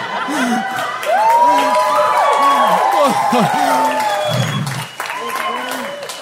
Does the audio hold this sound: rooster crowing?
no